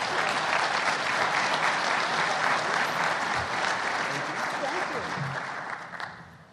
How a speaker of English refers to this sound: Please give them a warm welcome and a round of applause.